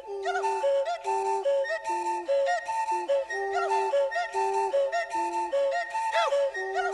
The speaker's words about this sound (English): The way this the song opens is a combination of voice and whistling into the beer bottle.